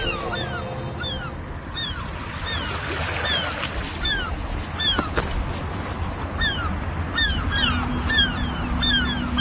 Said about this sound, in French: Avec les mouettes qui tournent dans le ciel, là. On est à Cherbourg, avec en face de nous les restes des fortifications.